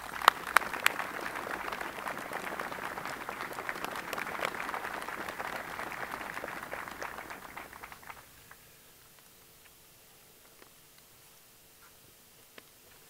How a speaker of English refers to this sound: Ladies and gentlemen, join me in a round of applause for a terrific Deputy Secretary of Defense, Ash Carter.